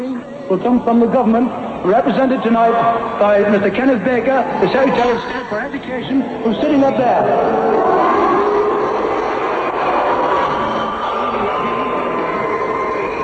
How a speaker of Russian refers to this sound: внезапно ошикала и освистала уважаемого министра, столь необходимого для юности образования. Вернее, не ошикала, потому что в Англии в таких случаях кричат слово «бу». Впрочем, слушайте сами.